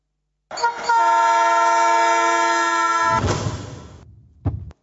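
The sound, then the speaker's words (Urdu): A train horn blares loud and steady for nearly three seconds as a train approaches a man who has fallen on the railway track, then gives way to a close, roaring rush of wheels on the track, ending with a sharp clunk. “یہ دیکھیے آپ, ٹرین سے گزر رہا ہے اور گر گیا, پٹری پر گرا اور ٹرین دیکھیں آپ بالکل اس کے قریب ہے, گویا موت سر پر کھڑی ہے.”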